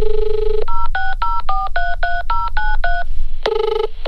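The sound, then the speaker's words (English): A steady dial tone gives way to about ten quick, evenly spaced touch-tone keypad beeps of varying pitch as the Tasmanian Coastal Council is dialled, followed after a short pause by a brief ringing tone. “So I decided to ring the Tasmanian Coastal Council to register my own game of beach cricket.”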